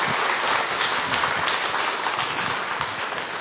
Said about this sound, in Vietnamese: Xin dâng lên Chúa một tràng pháo tay thật tình. Tràng pháo tay thật tình.